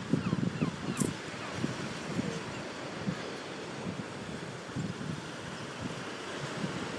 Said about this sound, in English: You know, I think it's just like letting them take in a bit of the atmosphere, the waves.